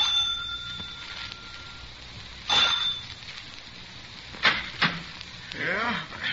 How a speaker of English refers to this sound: I rang the front doorbell.